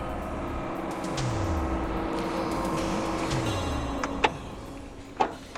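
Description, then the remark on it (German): A car engine rumbles, its pitch dropping as the vehicle slows to a halt before the electric gate lock of a sports building, followed by a couple of sharp mechanical clicks near the end. “als der Wagen nach einigen Minuten vor der elektrischen Schleuse des Sportgebäudes zum Stehen kam.”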